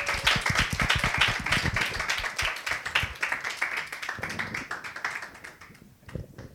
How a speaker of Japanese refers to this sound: というわけで、はい、拍手でお迎えしましょう。